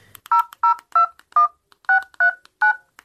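A telephone number is dialed: eight short, evenly spaced touch-tone beeps, each a steady dual-pitched electronic tone, with a brief pause midway through the sequence and no voices.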